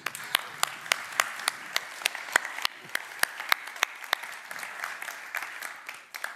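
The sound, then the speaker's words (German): A church audience applauds the worship team and the technicians, many hands clapping in a dense, steady patter with sharper individual claps standing out, sustained for several seconds before beginning to thin toward the end. “Ich möchte gerne sowohl dem Lobpreisteam, aber auch besonders ich heute Morgen den Technikern einen Applaus geben.”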